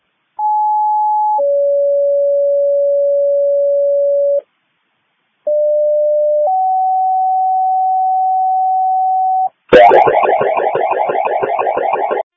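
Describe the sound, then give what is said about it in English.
Two sets of paired steady alert tones, each a short high tone then a longer lower one, loud and clean with a brief gap between, then a burst of harsh radio static: a fire department dispatch page to Solomon first responders, sent as a disregard. “651-800, go ahead and page out Solomon first responders as a disregard.”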